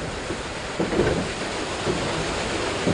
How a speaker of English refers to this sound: The sound of water rushing over huge wheels is what drove an operation known as the Saugus Iron Works. It started in 1646, the Saugus Iron Works.